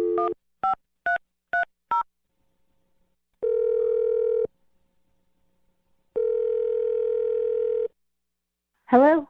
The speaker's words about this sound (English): Okay, I'm gonna dial the phone number right now. Here we go.